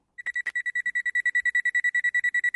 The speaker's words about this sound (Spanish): No, hija, eso es como un despertador.